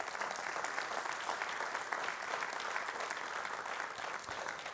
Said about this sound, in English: So especially for those of you in this room who have served our country in that way, just want to say a big thank you. Yeah, we're really thankful for that. We can clap.